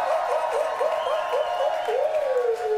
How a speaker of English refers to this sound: So let's give a huge round of applause